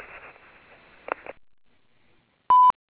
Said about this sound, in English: If this is not an emergency, you may leave a message after the beep or call back during normal business hours.